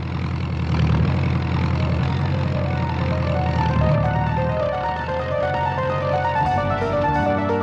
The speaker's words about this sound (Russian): Вновь теряя ощущение реальности, Бен смутно разбирал усиливающийся рев мотора по мере того, как Дэви прибавлял газ. Чувствовал толчки и покачивание машины, прокладывавшей себе дорогу в песке.